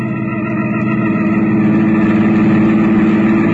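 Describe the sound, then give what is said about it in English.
A car engine runs steadily, its low rumble rising slightly in strength as the car is taken out of a garage; no voices are heard. “I slipped down the back stairs, and before Catherine and the servant spotted me, I had my car out of the garage.”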